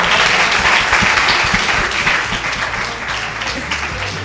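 An audience breaks into sustained, dense applause, many hands clapping at once in a steady loud wash that eases slightly toward the end.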